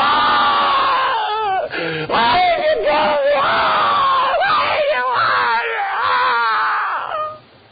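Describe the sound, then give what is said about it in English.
Several high-pitched voices, like children, scream and wail together, loud and sustained for several seconds, with a brief dip partway through before the cries cut off at the end, meant as grandchildren screaming from the blackness of an abyss in hell. “And what if, somewhere out there in the blackness of that abyss, I heard them screaming.”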